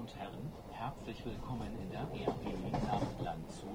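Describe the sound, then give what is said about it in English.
A steady, low rumble of a small two-car train rolling along the rails, with indistinct voices talking over the continuous mechanical noise. “I'm kind of surprised how small this train is. It's like a little two-car train.”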